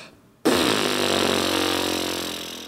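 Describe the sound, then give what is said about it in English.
After a brief silence, breath sets human vocal folds vibrating, producing a sudden, steady low buzz, rich and rasping, held for about two seconds and fading slightly toward the end. No talking. “The vocal folds start vibrating like this.”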